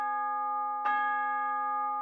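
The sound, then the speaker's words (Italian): A town square clock bell strikes nine o'clock while snow falls; one stroke is heard, its deep metallic tone blooming over the steady hum of a previous stroke still ringing, then fading slowly. No voices are heard. “L'orologio della piazza batté le 9.”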